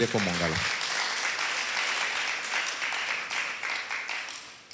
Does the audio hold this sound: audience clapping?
yes